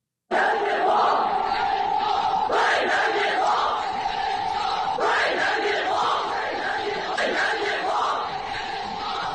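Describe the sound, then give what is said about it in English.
A crowd in China screaming and shouting together in a loud, sustained roar of many voices, with surging waves of cries rising and falling throughout, no clear words. “So the screaming you're hearing is out of China.”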